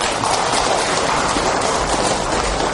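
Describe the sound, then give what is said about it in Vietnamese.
A crowd of Buddhist followers claps for themselves steadily and densely, a dense crackle of many hands that stays even in loudness for the whole stretch, with no voices rising above it. “Thì thôi giờ xin tự mình tán dương mình bằng tràng pháo tay đi.”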